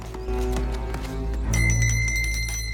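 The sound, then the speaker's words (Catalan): A small door bell at the convent of Bon Repòs rings out clearly, its bright metallic tone sustained through the second half, following a stretch of low rumbling and scattered clattering sounds. “Toca la campaneta de la porta.”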